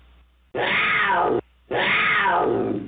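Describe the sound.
Two loud, raspy cougar roars close to the microphone, each lasting almost a second with a short silent gap between them, and no talking.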